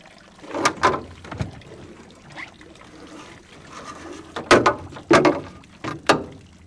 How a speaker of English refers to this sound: has anybody ever told you your boat's horn sounds like a duck?